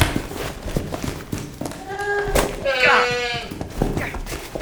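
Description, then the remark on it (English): Goats bleat in a couple of loud, wavering cries near the middle, over a busy background of scuffling, thumping movement and muffled voices. “They're goats.”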